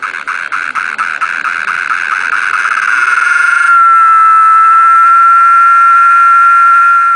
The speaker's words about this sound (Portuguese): E depois de ouvir a cantoria das cigarras